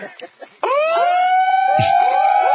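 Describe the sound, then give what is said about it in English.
A brief stretch of talking gives way to several loud sirens, set off as a protest sound cannon in Chantilly, that suddenly rise and hold a steady, overlapping wail, filling the rest of the moment. “I love the multi-sirens.”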